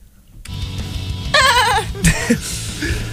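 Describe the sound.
A person on Tufts Radio performs a horse-like chant: a loud, high, quavering whinny-like call lasting about a second, followed by a shorter yelp, over a steady low background hum.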